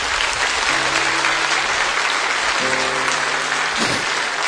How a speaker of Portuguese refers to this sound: Pode aplaudir, porque é graça de Deus.